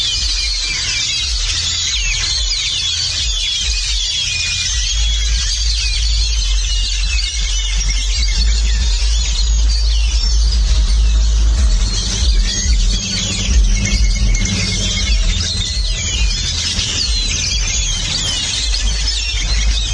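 A large flock of birds in a tree at dusk in Capilla de Guadalupe chatters and chirps nonstop in a dense, overlapping chorus, with a steady low rumble of background noise underneath.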